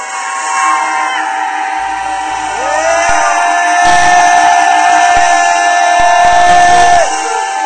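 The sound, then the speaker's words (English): A crowd of voices shouts in unison, a loud, sustained roar that swells and holds steady for several seconds before breaking off abruptly. “and we're going to just believe and decree that every dam in us, every dam in this region that has been stopped up, every dam in this state is going to fall and become unsealed at our shouts.”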